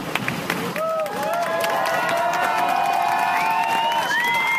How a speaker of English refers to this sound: Shaken audience members clapping for a 31-year-old Spidey stunt double as paramedics loaded him into an ambulance.